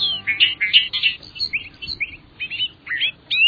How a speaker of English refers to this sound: Listen as a bobolink sings a rapid jangle of notes, like a meadowlark backed by a banjo. This bobolink is singing in central Maine, just north of Bangor, at Sunkhaze Meadows National Wildlife Refuge.